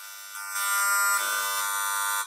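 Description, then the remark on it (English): A harsh, steady electronic buzz with dense stacked harmonics rises abruptly after a softer start, holding a raspy, grating tone like a loud droning hum, as a cordless phone signal sounds through an RF meter. “This is a cordless telephone.”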